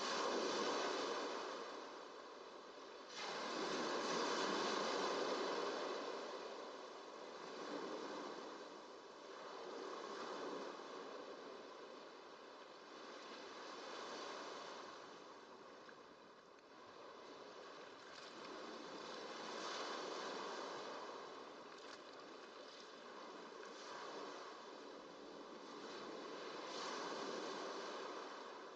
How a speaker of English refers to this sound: Lulled by the movement of the surf.